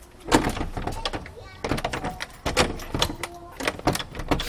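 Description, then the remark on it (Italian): A heavy door into a tower is pushed open with a series of clunks, metallic rattles and scraping creaks spread over several seconds, loud and uneven. “Faticoso aprire queste porte.”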